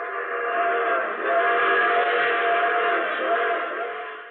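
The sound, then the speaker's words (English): A long, steady train whistle sounds for several seconds, a sustained multi-tone blast that swells slightly and then fades near the end, with no voices over it. “Oh, you have to get off now. I'm sorry. But I'm sure we'll meet again. I take this same train every week at this time.”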